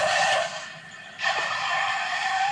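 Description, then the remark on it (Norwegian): Car tires skid with a loud, harsh screech in two bursts, briefly easing before surging again and holding steady to the end. No one speaks. “For ikke å snakke om trafikk, den kan jo være en prøvelse for noen av hver.”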